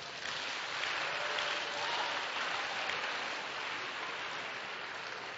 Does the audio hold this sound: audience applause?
yes